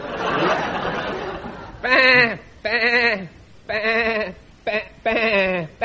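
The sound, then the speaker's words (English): After a couple of seconds of noisy murmur, five loud, drawn-out sheep bleats follow one another, bending in pitch like a sung bluesy phrase. “A 12 bah blues.”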